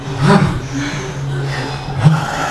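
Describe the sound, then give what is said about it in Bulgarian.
Two deep, forceful breaths, one near the start and one near the end, each a rough, rushing burst of air, fairly loud over a low steady hum. “Дишай! Тишина, която прегръща.”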